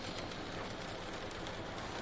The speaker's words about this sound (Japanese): 雨粒が大きくなってきました。